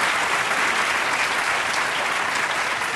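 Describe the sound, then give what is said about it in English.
A crowd applauds actor Jim Dale at the end of his appearance, a dense wash of many hands clapping at once with no individual claps standing out, sustained and fairly loud throughout. “Well, thanks a lot, and thank you, crowd, for appreciating me so much.”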